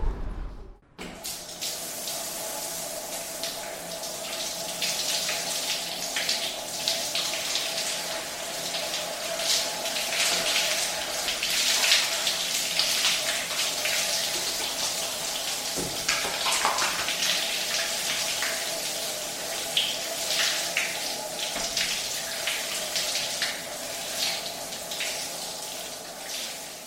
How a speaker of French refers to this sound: Ah ben, ça va mieux, une bonne petite douche, là.